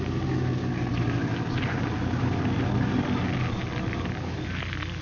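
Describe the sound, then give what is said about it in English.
A car engine rumbles steadily while branches and brush crackle and scrape continuously as the car is run off the road into the bushes. No one speaks. “I'm going to run the car off the road into the bushes here so it can't be seen by anyone going by.”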